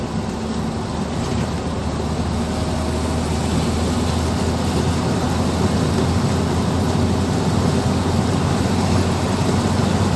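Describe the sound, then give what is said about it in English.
A big truck rumbles on the road, its heavy engine drone and tyre roar holding steady and loud throughout, with no one speaking. “Oh, big truck.”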